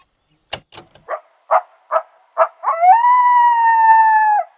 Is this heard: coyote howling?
yes